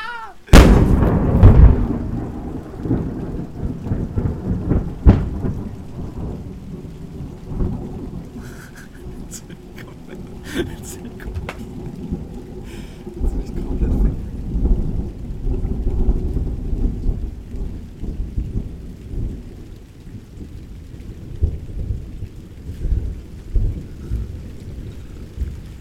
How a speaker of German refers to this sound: War kurz tot. Legit. Das war das fucking lauteste, was ich jemals gehört habe. Digga, das ist so ein Gewitter, ist wirklich wie so ein Horrorfilm der Natur, Digga, mit diesen fucking Jumpscares da einfach, Digga.